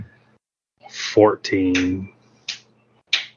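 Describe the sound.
A child claps twice in another room, two sharp, separate bursts about half a second apart. Just before them a voice makes a brief, moderately loud sound.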